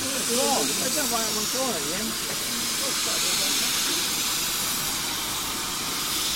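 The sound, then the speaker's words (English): A loud, steady hiss of steam from a steam locomotive at Swanage, its train carrying many people, continuous throughout. A man speaks faintly beneath it early on. “this particular locomotive would have been, and its classmates would have been seen in the Kent area of the, what be really the southeastern section of the Southern Railway, and would have been a really regular sight.”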